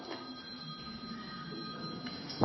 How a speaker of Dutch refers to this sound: Daar ging de telefoon.